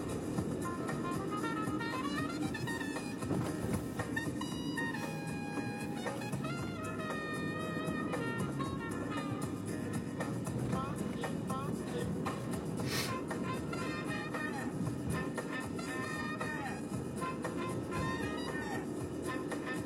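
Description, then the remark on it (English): A car drives along a street in traffic, with a steady low rumble of engine and road noise throughout and scattered high whining tones over the top. “She made it safely across the street. I did not run her over.”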